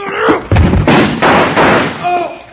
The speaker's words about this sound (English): Hit the door hard enough to break the lock.